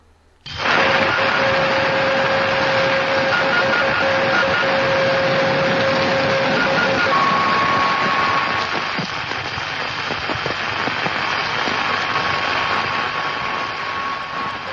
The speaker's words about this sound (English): the next one is on 144 megahertz, and it's the beacon, I believe.